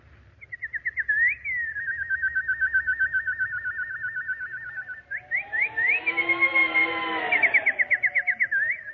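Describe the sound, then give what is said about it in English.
A nightingale sings alone, a high, rapid trill of repeated whistled notes that runs steadily, then swells into a fuller, warbling passage before returning to quick chirping trills. “Oh, little nightingale.”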